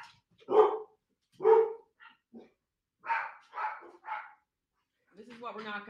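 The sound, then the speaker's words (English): Several pet dogs bark in sharp bursts, two loud barks, then a quicker run of three with a few small yips between, before a voice starts talking at the end. “Okay, so I'm gonna take care of my dogs.”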